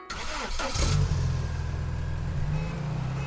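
A car engine turns over with a brief rough burst, then settles into a steady, low droning hum that swells slightly as it revs near the end. No voices.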